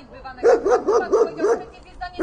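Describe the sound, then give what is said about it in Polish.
A dog barks rapidly in a steady run of five or six sharp, evenly spaced barks, fairly loud, then falls quiet briefly before one more bark begins. “A sprawa psa zaniepokoiła nas.”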